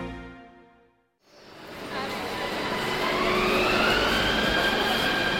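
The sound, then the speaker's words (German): A brief fading tone gives way to a passenger train travelling from Kolkata to Kakwip, rolling on its rails. A steady rumble builds in loudness, with high metallic wheel squeals drifting over the clatter. “Von Kalkutta fährt unser Zug nach Kakwip, einem Außenposten der Neuzeit mit Kinos und Banken, Restaurants und Hotels.”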